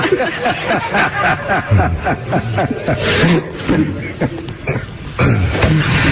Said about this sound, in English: You have to try to fart that loud. I know. The second one especially. The second one, we got some leftovers. The first one, that's not like just by accident. That's a purposeful.